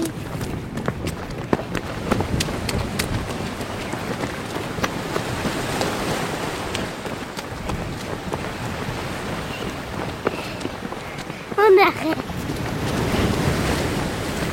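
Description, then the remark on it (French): Strong wind blows across a flat, open coast by the sea with no obstacles, buffeting the microphone in steady rumbling gusts, with surf washing faintly underneath and a brief louder burst near the end. “Il y a beaucoup de vent.”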